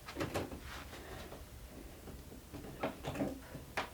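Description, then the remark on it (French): A door being closed, with a few sharp knocks and clicks of handling and latching spread over several seconds, fairly quiet, no voices. “Je ferme la porte?”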